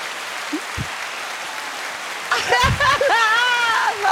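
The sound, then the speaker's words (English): An applause sound effect: a steady wash of crowd applause, crackly and fairly loud, runs the whole time, and partway through excited voices rise over the clapping. “Give me the applause.”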